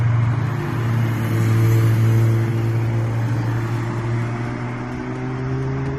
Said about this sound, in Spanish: Esto que parece una autopista en hora punta es en realidad el polígono de Somonte en la madrugada del pasado viernes al sábado. Son vehículos que iban a participar en una carrera ilegal abortada por la Guardia Civil.